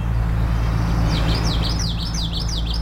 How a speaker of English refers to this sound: Those are the sounds of the twitchy, twitchy song of the common yellowthroat.